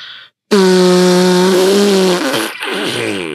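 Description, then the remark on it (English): A voice imitates a loud, drawn-out fart: a steady buzzing blat lasting about two seconds, then a wobbling, sputtering tail, prominent with no talking. “Last night, and there are many other nights, you literally farted so loud and long. Like, it was like an echo.”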